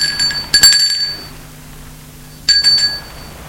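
A doorbell at a small door of a small two-storey house at the back of a courtyard rings twice with bright, metallic chiming tones, each ring lasting about half a second to a second with a pause between, over a steady low hum.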